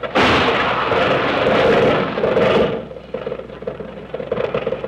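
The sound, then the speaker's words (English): A car jolts over a bump with a loud, harsh rattling crash that lasts about two and a half seconds, then drops to a quieter, uneven clattering rumble. No one speaks. “Watch out for that bump up ahead.”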